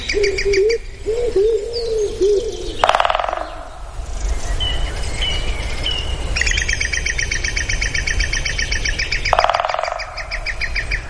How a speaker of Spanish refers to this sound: En los bosques relinchan los pitos reales. ¿Esto relinchar también? Sí, ¿el verbo relinchar también? Sí, es un pájaro carpintero.